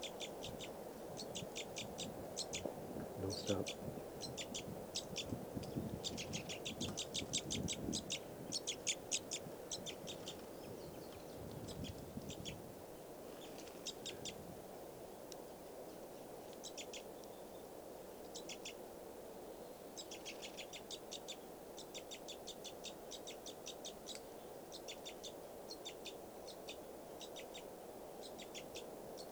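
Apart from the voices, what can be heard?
wild bird calls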